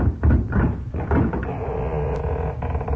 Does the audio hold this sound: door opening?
yes